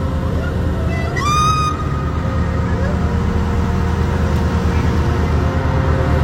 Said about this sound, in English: A ghastly scream of a woman can be heard coming from the dark.